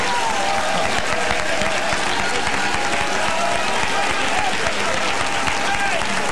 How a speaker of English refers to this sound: Let's clap like we never have unto the Lord and shout unto God with a voice.